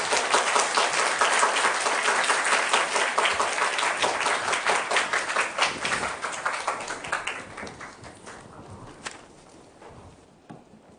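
A crowd breaks into steady applause, many hands clapping together in a dense wash that thins out and fades over about ten seconds, with a few scattered claps lingering at the end.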